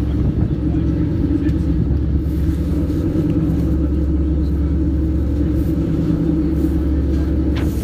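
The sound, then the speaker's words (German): Strong wind blows across a ferry deck, a steady, loud low roar with rough buffeting that never lets up, a faint engine drone blended into the rumble. “Ja, oh, ist jetzt ganz schön windig.”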